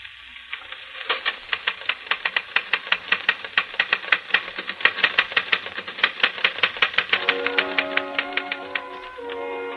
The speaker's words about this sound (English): you're busy typing on a phonograph record. You watch it repeat a couple of times, satisfy yourself it's working perfectly,